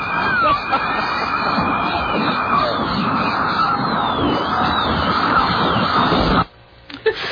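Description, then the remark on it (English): A harsh, dense wall of screeching noise, made of a high-pitched noise, fingernails on a blackboard, a dentist drill and a bird warble played all at once, with a whining drill-like tone and warbling chirps layered on top, loud and constant for about six seconds before cutting off abruptly. “What if I play the high-pitched noise, the fingernails on a blackboard, the dentist drill, and a bird warble all at once?”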